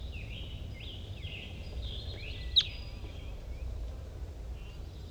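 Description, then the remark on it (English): A wild crossbill calls off in the distance: a series of faint, high, sweeping chip notes repeating over a low, steady rumble, with one sharp click partway through. No one speaks. “The wild bird is off in the distance.”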